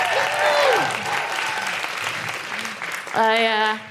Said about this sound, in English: Make incredible woohooing noises for Alison Spittle!